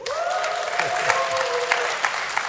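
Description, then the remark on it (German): Steady audience applause with dense, crackling clapping throughout, fairly loud, while a faint whistle-like tone glides slowly downward in the background. The audience is at a live broadcast of the Radio 1 science magazine Die Profis at the Zeiss Großplanetarium, Prenzlauer Allee 80. “Man hört den Applaus bis zum Mond.”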